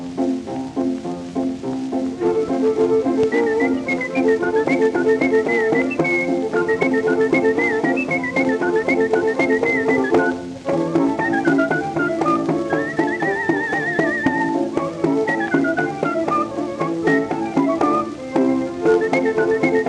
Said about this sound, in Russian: Художественный свист в сопровождении оркестра